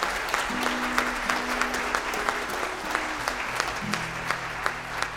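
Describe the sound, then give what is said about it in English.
A sizable audience applauds steadily for the road crews who keep the roads safe. Dense overlapping claps last for several seconds at moderate loudness, with a faint low hum of crowd noise underneath. “But there's been guys and girls knee deep in mud keeping our roads safe, so let's give them a big round of applause too.”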